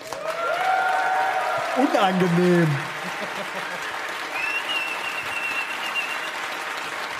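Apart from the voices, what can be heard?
audience applause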